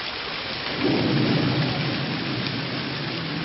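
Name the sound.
rain with thunder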